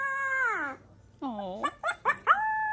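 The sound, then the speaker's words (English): A young puppy learning to howl lets out wavering, high-pitched howls, a long sliding cry followed by a short series of yips and squeaky rising notes, fairly loud. “I have an adorable puppy learning how to howl.”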